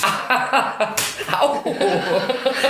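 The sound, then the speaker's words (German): A single sharp slap of a hand striking a person sitting at a microphone lands about a second in, surrounded by soft chuckling and snickering voices that continue afterward. “Ich sitze hier total konzentriert vor dem Mikrofon und auf einmal klatscht es. Hör auf, mich zu hauen.”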